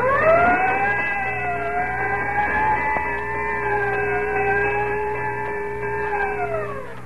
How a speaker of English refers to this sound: Whenever you hear the siren and bell, think of Texaco Fire Chief gasoline.